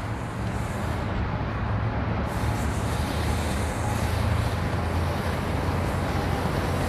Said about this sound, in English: Here's what I need to do, too. Come get my car washed.